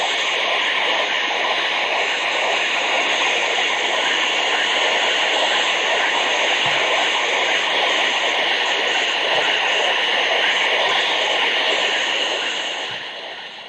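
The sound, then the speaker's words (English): A submarine's propeller noise heard underwater at a range of 200 yards: a loud, steady churning hiss that rolls on continuously without pause, faint low thumps occasionally showing beneath it, with no voices. “Let's listen once again to the sub at 200 yards.”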